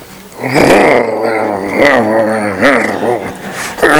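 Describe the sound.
A person's voice imitates a dog's deep, rumbling growl, held steadily for several seconds with a few rising and falling surges, fairly loud.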